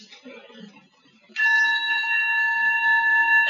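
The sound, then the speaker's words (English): A meditation bell is struck once during a sound meditation teaching and rings out with a bright, sustained shimmering tone that hangs steadily without fading, after a moment of faint shuffling and low murmur. “Because we have this very nice bell.”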